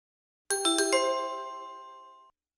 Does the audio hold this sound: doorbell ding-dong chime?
yes